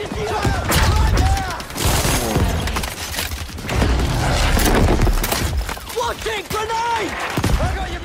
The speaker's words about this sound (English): For example, in Battlefield 5, there might be planes overhead and soldiers shouting and bullets flying from every direction.